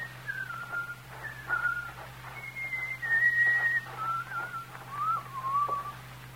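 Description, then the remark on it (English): A man whistles a lilting tune outside, a string of clear, wavering notes rising and falling over several seconds, with a steady low hum in the background and no talking. “have that good-for-nothing loafer put in jail where he can whistle to his heart's content.”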